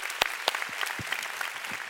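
A church audience applauds to give the Lord a big hand, a dense wash of many hands clapping with a few sharper, louder claps standing out, steady and moderately loud throughout.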